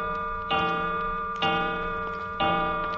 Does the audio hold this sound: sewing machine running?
no